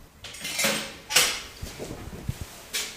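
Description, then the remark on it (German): The front door of a home opens: a few sharp rattling clicks and knocks from the latch and handle, followed by a soft whoosh of the door swinging, with no one speaking. “Dann geht die Tür auf.”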